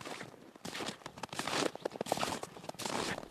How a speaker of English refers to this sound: About the only sound is the crunch of your footsteps around here.